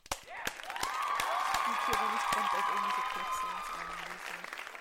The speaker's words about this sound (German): Ich hab's fest geklatscht.